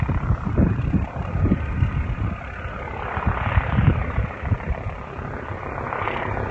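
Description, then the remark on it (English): A police helicopter passes overhead, its rotors making a loud, steady low rumble with uneven thudding pulses and a gusty, wind-like roar. No one speaks. “We're hearing a helicopter now from our right.”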